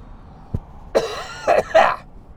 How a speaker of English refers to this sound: I got a cough. I got a cough in the ears of my fucking listening audience, whom is graciously, patiently.